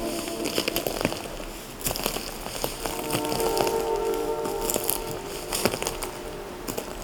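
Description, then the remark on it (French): Footsteps crunch over twigs and dry leaves on a forest floor, with irregular crackling snaps against a steady outdoor hiss and faint birdsong. “de brindilles, la forêt crisse, crisse sous vos pas.”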